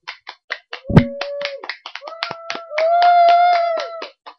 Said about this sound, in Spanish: Y este programa, por fin, estamos grabando en vivo. ¡Aplaudan, público!